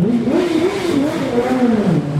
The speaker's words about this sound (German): Metrostation Taganskaja am Moskauer Gartenring um die Mittagszeit. Der Verkehr quält sich durch die 6-spurige Sadowaja-Straße. Der Stau zerrt an den Nerven der Automobilisten.